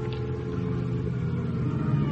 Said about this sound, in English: Then I hear a car outside. It's light enough through the window to tell me it's Lieutenant Hama.